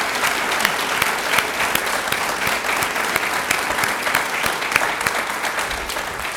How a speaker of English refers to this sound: Please join me in a warm round of applause for our speaker.